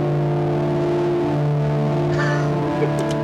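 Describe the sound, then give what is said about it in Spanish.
A distorted electric guitar, with reverb applied to the distortion, holds a thick, buzzing chord drenched in reverb, droning steadily and loudly for a few seconds, with a brief higher scrape near the end. “De hecho, si quieren escuchar cómo suena, vas a estar distorsionando, no, perdón, vas a estar metiéndole reverb a tu distorsión, güey.”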